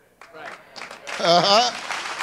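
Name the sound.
weak audience clapping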